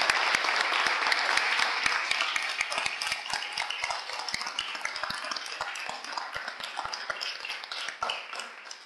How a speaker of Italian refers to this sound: l'applauso così sentito va sicuramente a mio padre, che per Gian Donato è stato maestro di vita e anche per me.